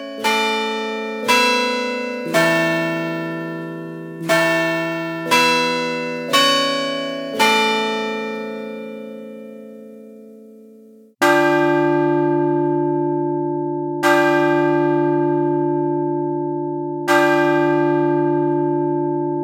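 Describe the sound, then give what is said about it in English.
Clock bells of a Chime Master carillon system ring out a quick chiming melody of about eight notes, then a deeper bell tolls slowly four times, each strike long and resonant, with no voices present. “If you wish to strike the clock, a variety of styles are programmable for any time periods you desire.”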